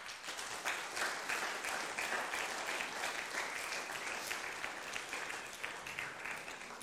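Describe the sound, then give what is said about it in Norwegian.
Steady audience applause for performers who played Bible heroes, many hands clapping in a dense, even wash of sound that holds at a constant loudness for several seconds with no voices over it. “Gi dem en applaus.”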